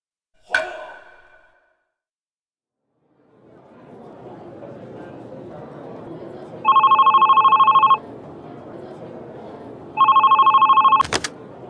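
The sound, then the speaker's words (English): A telephone rings twice at the company Innovative Design as a police officer from Kagoshima Police calls, electronic trilling bursts over a low murmur of office background noise, then a sharp click cuts it off. A short chime sounds at the very start. “A police officer calls the company where Ken Wood works.”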